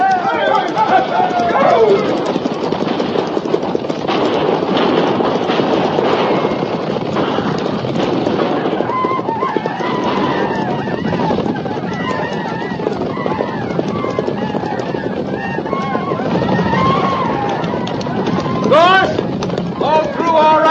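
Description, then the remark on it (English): Many horses gallop in a cavalry charge to ride through to a wagon train, a loud, continuous rumble of pounding hooves, with men shouting and yelling over the din throughout. “Stay low in the saddle, and we'll ride straight through.”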